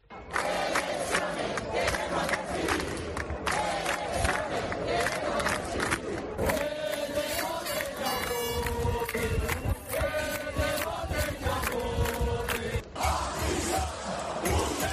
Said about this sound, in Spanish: En las islas, algunas de las proclamas que se escuchaban era España no se vende, elecciones queremos decidir o Pedro Sánchez a prisión.